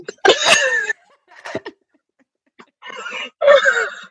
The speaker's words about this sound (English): I'm going to sneeze.